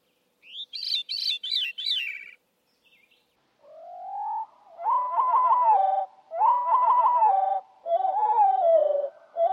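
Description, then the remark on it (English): A thrush's high, fluty song phrase rings out briefly, then repeats slowed down, dropping much lower into long, drawn-out warbling notes in several clear, loud phrases with no voices. “And they're heard at normal speed and then at slow speed.”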